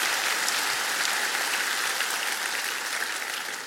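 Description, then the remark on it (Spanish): An audience applauds the Lord steadily, a dense, continuous patter of many hands clapping at an even loudness for several seconds, easing off slightly toward the end, with no voices audible. “Un aplauso al Señor para la integridad.”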